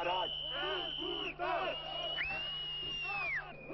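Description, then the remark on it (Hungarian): Part of a crowd of a few hundred at a flag-raising ceremony on Kossuth tér, Hungary, whistles loudly and blows shrill whistles, with long sustained high tones over a dense roar of voices chanting slogans demanding the prime minister's departure. “A tömeg egy része hangos fütyszóval, sípokkal és a miniszterelnök távozását sürgető jelszavakat skandálva követte nyomon a zászló felvonást.”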